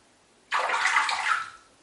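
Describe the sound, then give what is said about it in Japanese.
Bathwater splashes and sloshes in a tub for about a second while someone records from the bath, a sudden burst of watery churning that fades out, with no voices. “今のこの水音があのあんなにチャラララーみたいなあれだと思って、そんなの何かよって感じですけどね、その上で全裸で、風呂から収録してるこのパーナインラジオなんですが”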